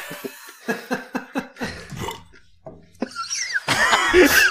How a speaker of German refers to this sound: Wow. Das war eine der schönsten Mischungen aus Lacher und Rülpser, die ich jemals gehört habe.